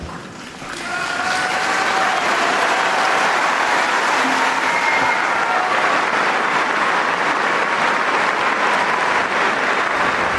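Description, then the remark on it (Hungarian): A large crowd breaks into sustained applause after the Pope's catechesis and blessing, rising within the first second and continuing as a dense, steady roar of clapping, with a few faint voices or tones mixed in. “Kedves hallgatók, a szokott módon nagy tapsviharral köszöntik a jelenlévők, és megköszönik a Szent Atyának a katekézisét, továbbá pedig a jelenlévő méltóságok köszöntik a Szent Atyát.”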